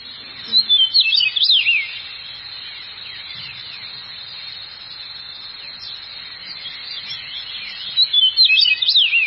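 Eastern meadowlark song: two bursts of clear, slurred, high whistled phrases, one at the start and one at the end, over a steady high-pitched insect-like drone, with no voices.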